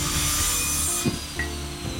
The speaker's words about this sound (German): Das ist eine Maschine? Eine Kreissäge? Langsam folgt sie dem Geräusch bis in einen Hinterhof.